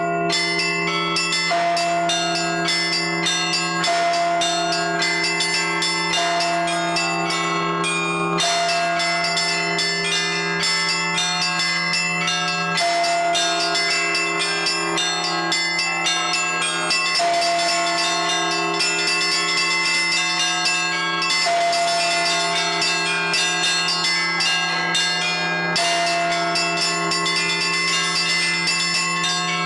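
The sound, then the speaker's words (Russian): Church bells ring out a steady melodic tune, a new peal based on a hymn and arranged for Cossack cadet children, strikes overlapping in a rich, resonant wash with a constant low drone beneath, loud and continuous with no voices. “Взяв за основу гимн «Боже, царя храни», Юрий Максимович Павлов специально для казачат подобрал новый звон.”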